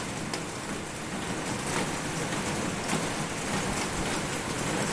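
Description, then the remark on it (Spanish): A heavy thunderstorm downpour in the city of A Coruña, Galicia, Spain, around 6 in the morning, hisses steadily and densely for the whole stretch, loud, with rain pattering on surfaces and no voices. “Así sonaba el aguacero en la ciudad en torno a las 6 de la mañana.”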